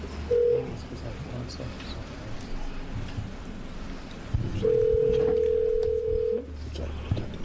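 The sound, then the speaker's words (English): Telephone dialing tones as a caller is connected by phone to a committee hearing at the Oregon Legislature: a brief electronic beep near the start, then a longer steady tone a few seconds later, heard over a low, continuous rumble. “you'll be joining us by phone this evening.”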